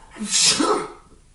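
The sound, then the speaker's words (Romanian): A single loud sneeze with a sharp hissing burst that quickly fades into quiet. “Noroc!”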